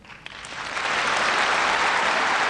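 Loud, sustained standing applause from around 1,000 young Israelis in a hall during a speech, building quickly from scattered clapping into a dense, continuous roar of hands.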